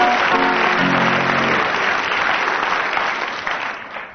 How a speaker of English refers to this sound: Big round of applause